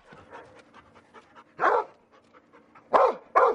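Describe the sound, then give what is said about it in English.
A search and rescue dog barks three sharp, loud times, the last two coming in quick succession, with quieter panting and snuffling between the barks, at a U.S. search and rescue training facility with simulated collapsed freeways, leaning buildings, rubble piles and wrecked cars. “It's the only facility of its kind in the U.S., built specifically for dogs to learn search and rescue.”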